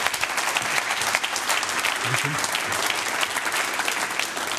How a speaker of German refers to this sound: Applaus für Markus Kompa.